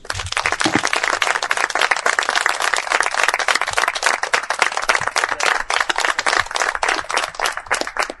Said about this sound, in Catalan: i crec que ens mereix, la Neus Català es mereix un aplaudiment de totes les persones aquí presents.